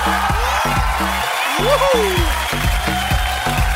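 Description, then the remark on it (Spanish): Steady crowd applause of welcome for the fabric and clothing liquidator Piel Morena on a radio program, with a few whoops, runs over a punchy, bass-heavy rhythmic music beat, and a sliding whistle-like tone rises and falls midway. “Un aplauso de bienvenida.”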